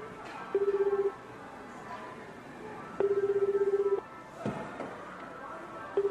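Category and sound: signal or alarm, telephone keypad dialing tones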